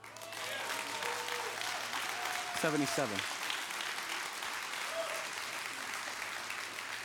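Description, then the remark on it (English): A church audience claps steadily for about seven seconds for people who have made the decision to follow Jesus, a dense, even wash of many hands with a brief swell midway and faint tonal hum underneath. “Why you might go, why are people clapping?”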